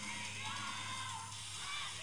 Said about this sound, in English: Now, you're hearing the annoying ass fucking girls in front of us that were screaming every song.